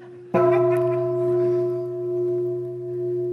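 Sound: bell ringing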